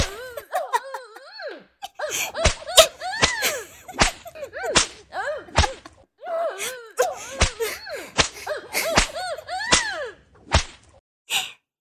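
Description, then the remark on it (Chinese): Sharp whip lashes crack about a dozen times at an irregular, quickening pace, loud, each followed by a person's high, wavering moans and cries. “也是个变态啊，竟然被鞭子抽，还能抽到高潮。”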